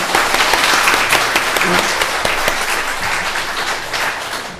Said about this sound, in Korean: 우리 모두 함께 하나님께 힘찬 박수로 하나님께 영광 한번 올려드릴까요?